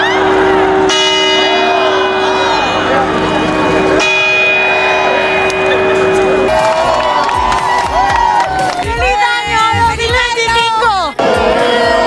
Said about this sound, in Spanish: cambiamos totalmente de registro y nos vamos ahora hasta la Puerta del Sol, donde hace unos minutos, como es tradicional, se ha celebrado las últimas preuvas del año antes de las campanadas de Nochevieja.